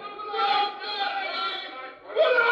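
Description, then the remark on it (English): A crowd of mind-controlled captives in a throne room screams together in a sustained, high-pitched chorus of overlapping voices. It dips briefly near the end, then surges back even louder. “And up above in the throne room, the captives, whose minds are controlled by the leader, who think as he does, begin to scream.”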